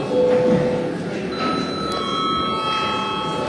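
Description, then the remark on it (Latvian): A parliament session bell, rung when registration mode is called, sounds as a steady electronic tone, holding for several seconds, with a second higher tone joining partway through, over a low murmur of background noise. “Lūdzu zvanu, lūdzu reģistrācijas režīmu.”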